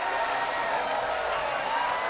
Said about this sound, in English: I think we'd have like the arena cheering sound effect after our broadcast.